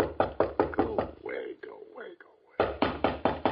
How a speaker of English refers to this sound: Just gonna let him knock.